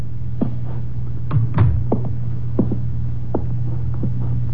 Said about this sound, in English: I drove down to the apartment house on Gramercy Square where Cross and Halleck lived, took the elevator up to the 10th floor, found the right door, and slipped in with a pass key.